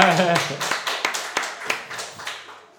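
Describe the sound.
A small group claps together in a steady, fairly even rhythm of sharp hand claps lasting a few seconds, with voices heard briefly at the start before the clapping slowly fades.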